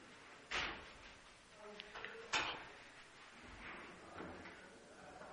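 A door is opened slightly, with a sharp latch click, a brief faint squeak, then a second solid thump, over a low murmur.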